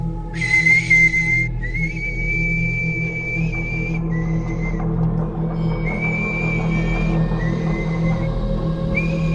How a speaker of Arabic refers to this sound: المهم بعد شوية وفي وسط الضباب إلسي بتقول انها سمعت صوت صفارة خافتة جاي من وسط الضباب. كان عبارة عن صفارة صغيرة ملحوقة بصفارة طويلة قوي.